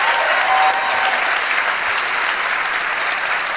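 An audience who have seen the film Disco-ormene that evening claps steadily and loudly, a dense, even wash of many hands that holds at full strength for a few seconds with no voices on top.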